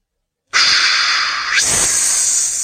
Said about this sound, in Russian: Свистели и шипели змеи, вставали на хвосты и кланялись кому-то, стоявшему позади детей.